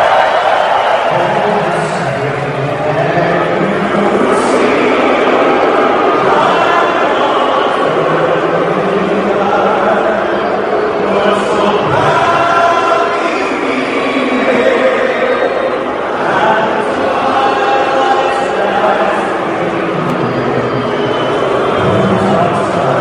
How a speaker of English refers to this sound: These are the Canadians booing our national anthem.